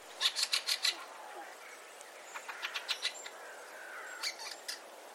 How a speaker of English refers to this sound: Two more overseas arrivals, which will start to appear as winter draws on, are the redwing and the fieldfare. Here's the redwing. And now here's the fieldfare.